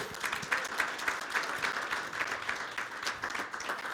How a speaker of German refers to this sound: Schatz, komm doch mal nach vorne. Komm, wir geben ihm mal einen großartigen Applaus.